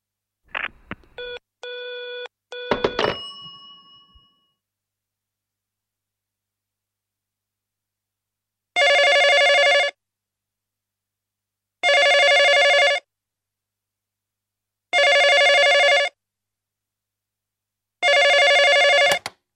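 A quick flurry of keypad beeps, then a telephone rings four times: loud, buzzy electronic rings evenly spaced about three seconds apart, with no one speaking.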